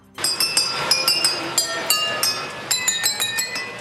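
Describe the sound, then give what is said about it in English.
A rapid series of bright glass clinks and pings rings out in a quick, uneven rhythm over a soft mechanical rumble as a model train in a museum in Hamburg plays a melody on nearly 3,000 wine glasses, the tones ringing briefly like struck wine glasses forming a tinkling tune. “And a museum in Hamburg has found a musical way to set a Guinness World Record by setting up a model train to play a melody on nearly 3,000 wine glasses.”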